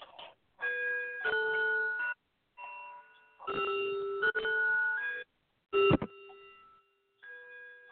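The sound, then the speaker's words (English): A clock bell chimes ten o'clock, a series of clear, ringing bell tones in a steady sequence, each note sustaining and fading before the next, moderately loud with no talking. “I hear that bell, so that means it's 10 o'clock.”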